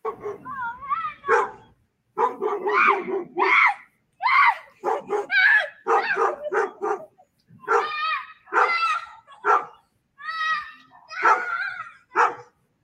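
A dog barks and yelps repeatedly in agitated bursts, loud, with high whining and screechy cries mixed in over about thirteen seconds, brief pauses between the volleys, as it is scared by a boy crawling around dressed in a Megan Halloween costume.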